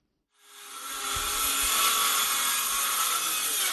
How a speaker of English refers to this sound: The roar of power drills fills the air in the village of Guidemartin, a typically quiet community of 2,000 people located some 100 kilometers from the Senegalese capital of Dakar.